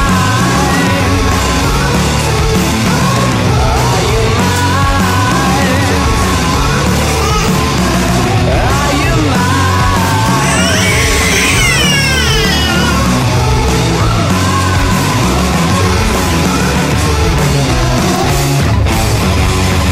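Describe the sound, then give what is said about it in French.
A child cries and wails loudly in rising, drawn-out howls over dense, loud guitar music that plays throughout; the wailing peaks near the middle. “Ben voilà, forcément, vous passez des guitares, alors cet enfant se met à pleurer, à hurler à la mort.”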